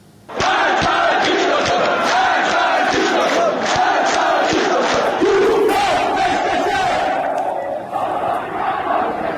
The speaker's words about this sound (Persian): بر پایه تصاویر منتشر شده در شبکه‌های اجتماعی روز جمعه در ورزشگاه آزادی و در جریان مسابقه فوتبال دو تیم استقلال تهران و تراکتورسازی تبریز، تماشاگران شعار مرگ بر دیکتاتور سر دادند و ماموران نیروی انتظامی با آنها درگیر شدند.